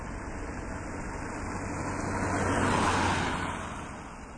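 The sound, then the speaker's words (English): A steady, muffled roar of road traffic passing through a newly built tunnel below rumbles up, swelling slightly in the middle as vehicles pass, then easing back to a continuous low drone with no voices. “And now you can still hear sound of the traffic, but the traffic is going underneath in this tunnel, this new built tunnel.”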